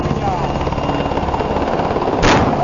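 A police helicopter approaches, its rotor thumping in a steady, dense roaring drone that fills the whole clip, with a brief sharp burst of noise near the end.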